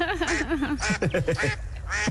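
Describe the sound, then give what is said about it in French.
A family of ducks quack in quick, overlapping bursts, loud, with nasal calls tumbling over one another like a small group chattering together. “Juste une famille de canards.”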